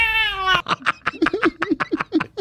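A cat lets out a drawn-out meow, then breaks into a quick run of short, chirpy yowls in a steady rhythm. No one speaks.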